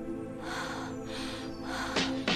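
Heavy, rhythmic breathing that is part of a played music track rises and falls in slow swells over a sustained musical drone, ending with two sharper, louder gasping breaths close together. No one speaks.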